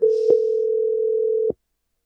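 A steady, low-pitched telephone dial tone hums for about a second and a half while a call is being placed, with a click partway through and another as it cuts off abruptly into silence.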